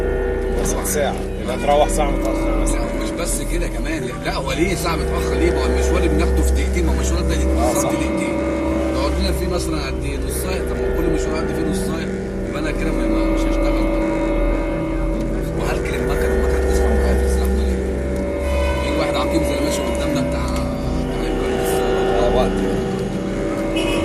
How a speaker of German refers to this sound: Die Taxifahrt, oder besser das Stop and Go, geht weiter. Und ich sage, dass dieser ganze Verkehr ihm doch mindestens eine Stunde klaut. Jeden Tag.